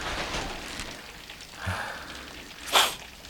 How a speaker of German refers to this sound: Sind wir schon mindestens 10 Meilen von Rocky Beach entfernt und jetzt fängt es noch an zu regnen. Furchtbar.